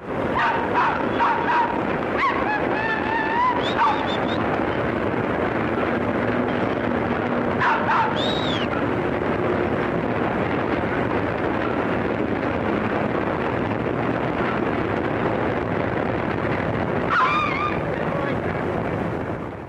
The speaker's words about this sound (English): This is the sound of a noisy curve along the old 9th Avenue elevated subway train sometime in 1929. And you will hear, in addition to the sound of the train itself, that it definitely freaks out a certain other species of being.